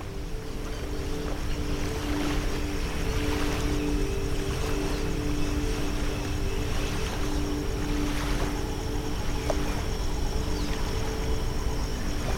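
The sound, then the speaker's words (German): Ocean waves rush steadily and continuously, with occasional splashes rising every few seconds over a low, constant hum in the background. “Das Rauschen der Wellen weicht einem plätschernden Geräusch.”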